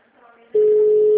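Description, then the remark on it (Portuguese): During a bank representative's call to the Bracel company in Brazil, a phone line's ringing tone starts abruptly: a loud, steady electronic hum that holds to the end, after a quieter, murmuring stretch of line noise. “Alô? Me atende. Agora vai tocar.”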